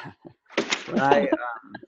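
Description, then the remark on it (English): A voice imitates a squeaky door: a drawn-out, creaky, wavering vocal squeal lasting about a second, fairly loud, framed by a few short breathy vocal bits before and after. “Squeaky when door.”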